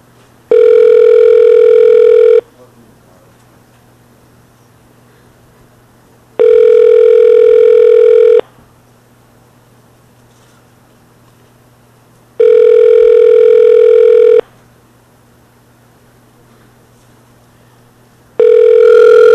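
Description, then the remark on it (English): A phone line rings out on an outgoing call to a place in Sunnyside, Queens: four steady, loud ringback tones of about two seconds each, spaced by roughly four-second gaps of faint hum, with no one answering or speaking. “Let's try this one in Sunnyside, but I'm afraid that they won't answer at all, but we'll find out.”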